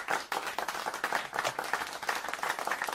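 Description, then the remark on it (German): Applause from a crowd, a dense, steady patter of many hands clapping at once, fairly loud and continuing without pause, with no voices over it. “Ich weiß nicht, wofür es jetzt hier Applaus gibt.”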